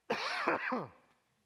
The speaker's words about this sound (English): Now, I'm going to finish a little bit early tonight because I feel like coughing is coming up again in a few minutes, and I don't want to do that to you all.